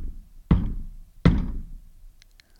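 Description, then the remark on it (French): Two hesitant knocks, made timidly by a young girl on the wooden door of a moated castle at night under a full moon, spaced slowly apart, each a dull thud with a short resonant tail, with no voices. “Elle traverse un pont de pierre et frappe timidement la porte.”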